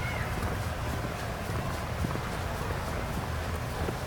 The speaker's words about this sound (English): Now, have you ever done the horse-drawn buggy? No. I saw that. I saw some people doing it yesterday. It's popular.